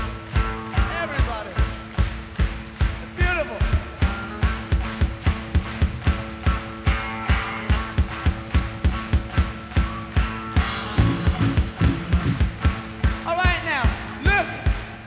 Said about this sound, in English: Can we try and get everybody just to stand up for 1 minute and clap their hands with us?